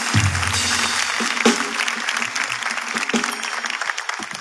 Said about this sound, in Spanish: Aplauso por cuidar a tu madre de esa manera. Un aplauso para ellas dos.